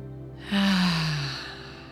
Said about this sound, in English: And now starting to breathe with purpose, inhaling through the nose. Grounding with the breath out, breathing into the root chakra, releasing with the exhale, breathing in